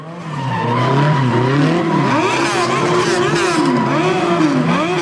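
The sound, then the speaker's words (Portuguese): A voice imitates a race car, with continuous revving engine noises rising and falling and squealing tire sounds mixed in, loud for the whole stretch. “Aí eu vim jantar na casa do meu namorado e o pai dele é um carro de corrida, mais um dia normal na minha vida.”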